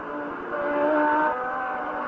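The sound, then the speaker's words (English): Formula One race cars roar past on a track during a Grand Prix, among them Alan Jones running second in the Frank Williams car; engines whine at high pitch, swelling louder in the middle as they pass, then easing off slightly. “There's Alan Jones running in second place in the Frank Williams car.”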